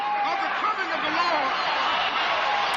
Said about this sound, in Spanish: Fueron los últimos aplausos. Fue el último discurso de Martin Luther King porque al día siguiente lo mataron.